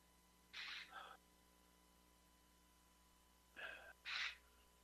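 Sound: sneeze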